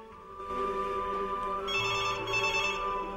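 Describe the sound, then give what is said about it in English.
Anne's telephone rings continuously and fairly loudly, a bright, buzzing trill that grows slightly sharper partway through, as she nurses a glass of white wine and John calls from a phone box; no one speaks. “John waits by the phone box, then Anne nurses her wine as her phone rings.”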